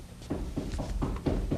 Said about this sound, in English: Sounds like someone at the back door. Coming.